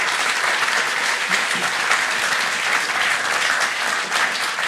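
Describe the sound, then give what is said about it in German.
Sustained audience applause for the speaker's wife, a dense, even wash of many hands clapping at once, fairly loud and steady throughout with no voices standing out. “Können wir auch mal Applaus machen?”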